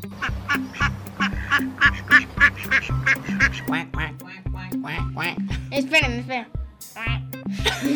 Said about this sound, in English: What sound was that animal? A duck. A duck.